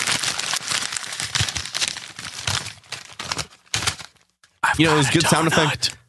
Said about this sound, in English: It was a good sound effect as my fiance leaves and mm-hmm. my door squeaks.